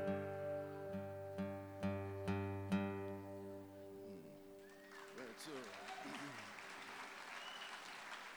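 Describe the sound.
A few strummed chords ring out and fade, then an audience breaks into steady applause, with scattered voices and whoops mixed into the clapping.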